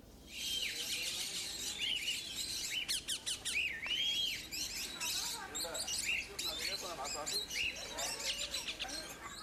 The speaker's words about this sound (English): The sanctuary shelters over 100 birds of 13 different species. Here, visitors can feed lovebirds, parakeets, rosella birds, and many more.